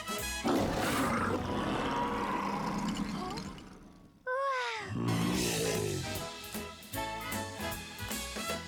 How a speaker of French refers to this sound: Ouvrez grand la bouche. Vous savez rugir? Parce que moi, je sais.